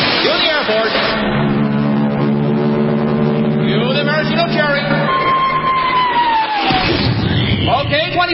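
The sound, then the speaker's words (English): A huge crowd of 25,000 extras roars and cheers loudly and continuously for about eight seconds, with sustained horn-like tones and a rising, falling whistle sounding over the din. “Then the Royal Canadian Air Force will fly overhead towing a 10-ton maraschino cherry, which will be dropped into the whipped cream for the cheering of 25,000 extras.”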